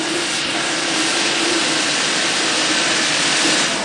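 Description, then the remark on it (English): A blowtorch roars steadily and loudly for several seconds, a dense, unbroken hiss with a faint low hum running underneath, as glass is being sculpted in the Glass Center's glassblowing studio, the Hot Shop. No one speaks. “Then, some sculpting with a blowtorch.”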